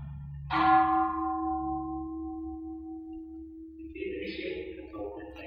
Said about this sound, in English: Let's listen to the bell, the gong.